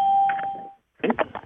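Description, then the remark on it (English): A single electronic ding on a conference call line rings out as a caller joins, a steady mid-pitched chime that holds for under a second and fades, followed after a short pause by a person starting to talk. “So I'm going to turn off the dings and mute the phone lines.”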